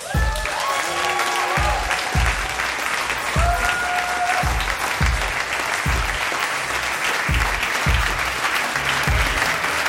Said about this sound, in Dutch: Graag een bemoedigend applaus voor Botte Jellema en Ipe Driessen.